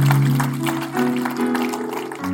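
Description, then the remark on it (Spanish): An audience applauding in praise of God, a dense, steady patter of many hands clapping over sustained low keyboard chords that shift pitch partway through. “Den un fuerte aplauso a nuestro Dios, que nos responde en todo tiempo, porque Él es nuestro Padre.”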